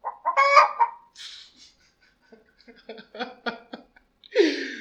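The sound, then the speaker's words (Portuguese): A chicken clucks in a series of short, choppy bursts, with a louder squawk at the start and another at the end, fairly loud with no talking. “Um rapaz tinha a estranha mania de se vestir de galinha e sair cacarejando pelas ruas.”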